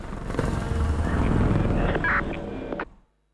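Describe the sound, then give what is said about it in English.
A helicopter flies overhead at Capitol Hill, its steady rotor roar loud and continuous with a low thrumming body and some higher whining tones, then cuts off abruptly near the end. No one speaks. “Brody looks out at Capitol Hill, a helicopter overhead.”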